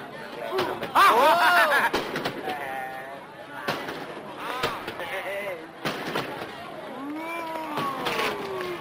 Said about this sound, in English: Boring fireworks, huh, Pop?